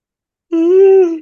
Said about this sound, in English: I'm going to yawn one more time.